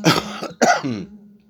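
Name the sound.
coughing and throat clearing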